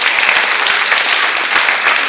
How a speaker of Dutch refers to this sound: Kunnen jullie het zien, mensen? Applaus, zou ik zeggen.